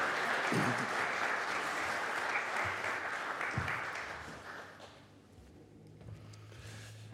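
Steady, dense, warm welcoming applause from an audience greeting a guest speaker, a broad crackling wash of many clapping hands that holds loud for several seconds, then thins and fades toward the end.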